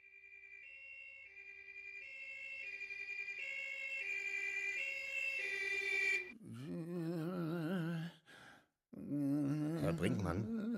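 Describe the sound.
An ambulance's two-tone siren alternates steadily between high and low notes, growing louder as it nears, then cuts off abruptly and gives way to loud, wavering voices.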